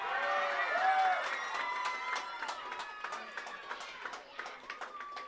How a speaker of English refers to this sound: A big cheer for Conor Maloney.